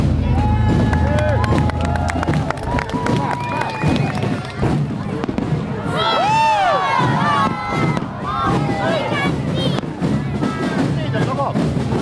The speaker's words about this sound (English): Fireworks and drums there at the end of Sinead Egan's report from Ballinasloe in Galway for Galway 2020's fire procession